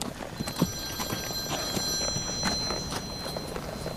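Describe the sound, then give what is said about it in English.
A mobile phone rings with a steady, high electronic tone while its owner is out riding a horse, the horse's hooves clip-clopping in a regular rhythm underneath. Nobody speaks. “It's only my phone.”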